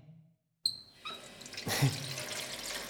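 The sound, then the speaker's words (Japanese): Water splashes and swishes as soap is worked into foam for washing a body, starting after a short silence and a small squeaky click, then a steady wet churning with no voices. “それじゃあ体を洗う泡を作っていくね。”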